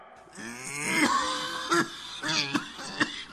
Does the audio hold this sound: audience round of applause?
no